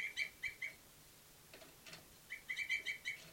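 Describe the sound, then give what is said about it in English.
Small birds held in observation tubes, numbered 27, 384 and 385, call in quick, high-pitched chirps: three sharp notes at the start, a few softer calls in the middle, then a rapid run of five or six chirps near the end. “The tubes of birds, 27, 384, and 385.”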